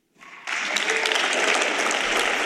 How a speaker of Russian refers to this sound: Да, бурные аплодисменты.